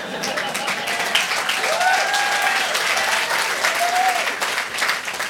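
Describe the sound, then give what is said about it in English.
Sustained audience applause fills the whole stretch, a dense, steady wash of many hands clapping at even loudness, with a few brief rising whistles or cheers cutting through the noise. “Well, then I'll continue for those of you who didn't applaud.”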